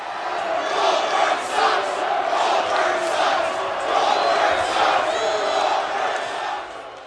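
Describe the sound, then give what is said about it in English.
A large wrestling arena crowd chants "Goldberg sucks" in unison, a loud, steady roar of many voices rising and falling in a repeated rhythmic phrase that carries on for several seconds. “You say Goldberg sucks? That's what they were saying.”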